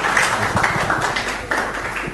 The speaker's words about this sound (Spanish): Le agradecemos por la presentación con un fuerte aplauso al doctor Salinas.